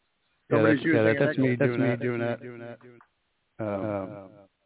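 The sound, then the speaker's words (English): A voice run through the echo effect of a mixer board, its sound repeating and trailing off in fading copies before a short pause and another burst of echoing voice. Thin, band-limited and fairly loud. “That's the joy of having a mixer board with a sound effect.”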